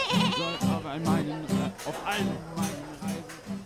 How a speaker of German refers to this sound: Nein, das hört sich nach einer Ziege an. Wir haben doch nicht etwa einen ungebetenen Gast? Oh nein, du hast recht, eine Ziege vergreift sich an unseren Leckereien.